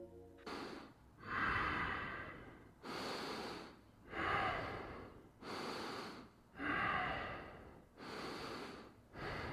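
A recording, made a couple of years earlier, of a woman breathing slowly and loudly while she slept, with about five long, rasping, snore-like inhales and exhales in a steady rhythm, no talking.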